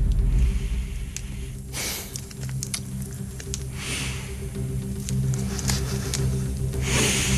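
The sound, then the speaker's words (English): Several short, breathy sniffs, spaced a second or two apart, with small crinkly rustles between them over a steady low hum: a man with a bubble hat over his eyes sniffing packets of jelly to tell their flavour. “43 years after Radio 1 first started, we have a man with a bubble hat over his eyes sniffing packets of jelly.”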